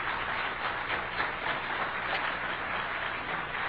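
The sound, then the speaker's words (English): Sustained applause from an audience for two debate contestants, a steady dense patter of many hands clapping at an even level throughout, with no one speaking over it. “A round of applause, I think, is due again for our two fine contestants.”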